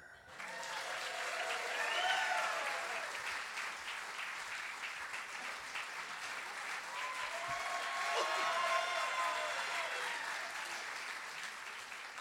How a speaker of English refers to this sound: And now, please enjoy Kevin McDonald's Kevin McDonald Show, live from Largo in Los Angeles, with special guests Andy Richter, Amy Mann, Dana Gould, and Mark McKinney. Ladies and gentlemen, please give a warm round of applause for tonight's announcer.